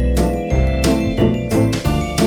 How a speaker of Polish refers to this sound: Słychać szybką muzykę.